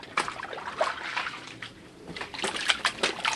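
Thick, wet sloshing and squelching as someone wades slowly through several inches of muck, with irregular splashy steps rising and falling in loudness and no voices.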